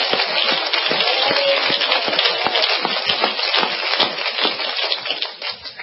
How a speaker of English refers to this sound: Let's clap our hands to the Lord a moment.